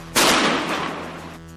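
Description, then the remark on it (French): A single sharp, loud bang of a powerful firework set off near a fire engine cracks out suddenly, then rumbles and fades over about a second against a low background hum. “Quand soudain un abruti décide de faire claquer un feu d'artifice puissant non loin du véhicule des pompiers, un policier municipal sera assourdi par l'explosion.”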